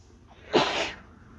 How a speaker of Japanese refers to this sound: くしゃみが出ちゃった。